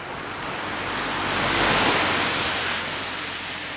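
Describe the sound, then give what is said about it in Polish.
Cars and various other vehicles pass on a busy voivodeship (regional) road with heavy traffic, a broad whooshing roar that swells to a peak midway and then fades, with steady traffic hiss underneath and no voices. “A to są samochody, pojazdy różne, tak, jadą.”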